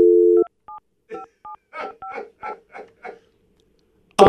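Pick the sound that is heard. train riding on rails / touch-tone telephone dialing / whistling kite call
touch-tone telephone dialing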